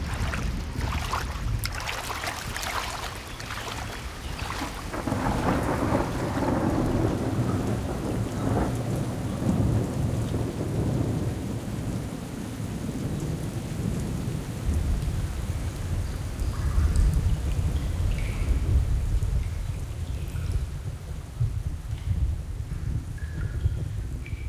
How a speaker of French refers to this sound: Il y a un orage qui semble encore 10 fois pire que l'autre. Il s'en vient droit sur nous.